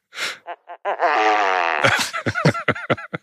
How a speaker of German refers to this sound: Okay. Das ist nämlich die Großtrappe. Fand ich sehr passend für diesen Anlass.